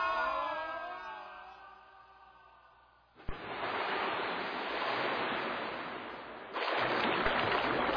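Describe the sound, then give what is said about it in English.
A wavering, falling tone gives way to a sudden heavy splash as a winged sky galleon falls and crashes into the sea, followed by loud, continuous churning waves that surge again near the end. “We be in the sea. Captain. What? Methinks the ship be sinking.”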